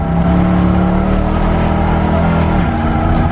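A powerful car engine roars steadily and loudly, its pitch holding high with a slight dip near the end, like a race car at speed, with no voices.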